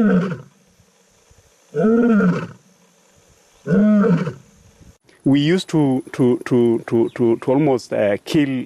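An African lion in Amboseli park roars, three long, deep moaning roars spaced a couple of seconds apart, then a quick run of shorter, punchy grunts. Loud, with no one talking.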